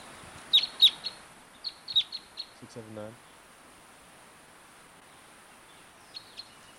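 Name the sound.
wild bird calling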